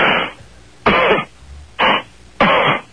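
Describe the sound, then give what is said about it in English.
A person coughs in a few loud bursts, roughly four harsh coughs spaced with short pauses, no talking in between. “If you think Jay Leno is good, cough twice if you think his show sucks.”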